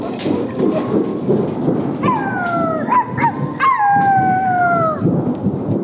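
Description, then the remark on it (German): Children from a theatre course imitate a storm, thunder and forest sounds from a play: a continuous rumbling, whooshing noise like wind and thunder, with several overlapping, descending howls rising over it midway, all fairly loud. “Sie haben extra für mich den Sturm, den Donner und Waldgeräusch vom Stück Ronja Räubertochter nachgespielt.”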